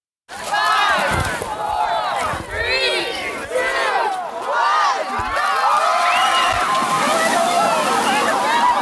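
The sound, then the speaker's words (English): A crowd shrieks and yells while water sloshes and splashes continuously, loud, as dozens of people rush together into icy cold ocean water in Juneau for a New Year cold dip on a Monday afternoon. “didn't have much to say after plunging in Juno's icy cold ocean water on Monday afternoon.”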